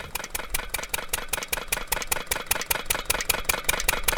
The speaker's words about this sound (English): The sound of the borewell pumping is constant and grating. But this process is necessary for collecting what some argue is a superior kind of salt.